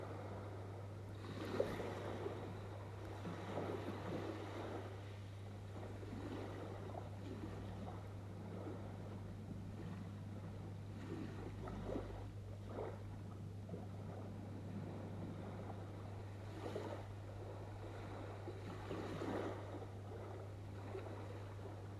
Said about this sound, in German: Du hörst die Meereswellen rauschen und holst noch einmal tief Luft und riechst die Meeresluft.